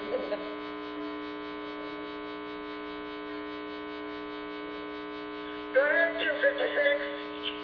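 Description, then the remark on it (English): A steady electrical hum with a buzzy, harmonic drone from something in the ceiling of room 256 runs unbroken from start to finish at moderate level, and a voice briefly speaks over it near the end. “So these guys have got a hum or buzz in the ceiling at 256.”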